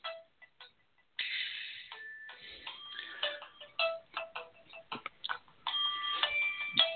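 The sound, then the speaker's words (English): A cell phone reminder alert from an eye center about an appointment the next day sounds off in a run of bright, beeping electronic tones and clicky chirps, starting with a few short blips and then playing steadily for several seconds with no talking. “That's my cell phone.”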